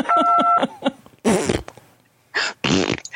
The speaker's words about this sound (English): Press 2 if you think social distancing from Rudy won't be a problem because nobody wants to get close to anyone who farts that much.